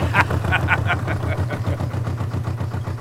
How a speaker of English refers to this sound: Yeah, listen to that. Healthy engine